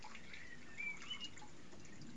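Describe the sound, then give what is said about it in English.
A quiet outdoor hush with a couple of faint, isolated drips of rainwater falling from the roof of an office, spaced apart against a soft background of steady ambient noise. “Just the occasional drip of rain from the roof of my office.”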